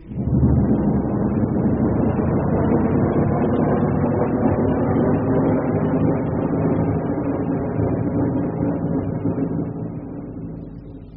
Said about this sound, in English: Right, the hull doors are open. 5 seconds to main engine burn, from now. Airlock doors latched. Four. Landing skid clamps released. 3, 2, 1.